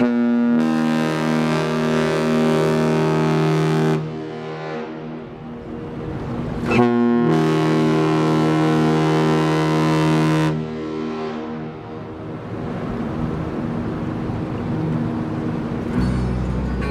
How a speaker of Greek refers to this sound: Φίλος του ήταν και ο Σεφέρης, και όταν αυτός πήρε το Νόμπελ, ο Κόλλιας είπε στον καπετάνιο να ηχήσει μπουρού του καραβιού τρεις φορές καθώς πηγαίναμε για την Ιταλία.